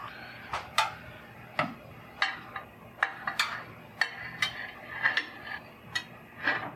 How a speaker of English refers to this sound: What is the oven temperature? It's at 400 degrees Fahrenheit. Okay, yeah, stand by. Listen. Your oven is preheated. Okay, it's preheated. I go over to the rack with the round pan on it, open the door, and slide it in. Ooh, that is hot.